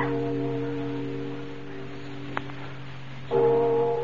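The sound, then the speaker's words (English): A church bell rings in a belfry, rung by someone pulling the rope up in the tower. Its deep, humming tone sustains throughout, with a brief knock midway, then a fresh, louder strike swells near the end. No one speaks. “Bells can't ring by themselves, old man.”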